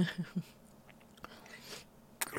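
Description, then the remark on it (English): Quiet wet mouth noises: a few soft slurping smacks at the start, then scattered sucking clicks and a sharper wet pop near the end, with no talking. “All the lovely slurps. And wet sucks.”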